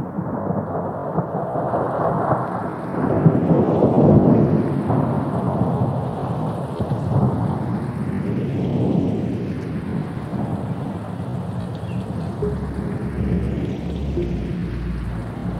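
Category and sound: nature, heavy rain with thunder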